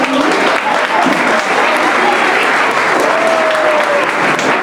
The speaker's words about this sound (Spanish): Damos un fuerte aplauso a la asociación.